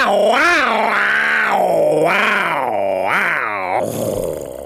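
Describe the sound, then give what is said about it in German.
A man's voice imitates a tiger's roar: a loud, sustained growling bellow that rises and falls in pitch in several surging waves, lasting nearly five seconds with no talk. “Er holte tief Luft und brüllte wie ein Tiger.”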